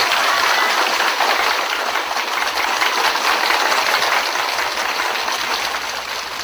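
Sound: audience applause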